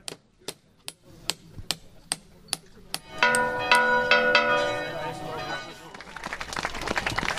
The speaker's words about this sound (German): Und jetzt sind wir wirklich gespannt, wie sich der erste Ton anhören wird, wenn dann die Glocke geboren ist und angeschlagen wird.